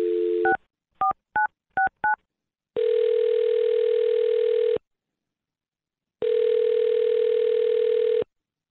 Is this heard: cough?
no